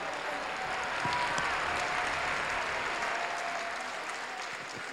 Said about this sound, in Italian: Facciamo ancora un forte applauso a questi meravigliosi abiti di Centro Moda Mastro Pierro.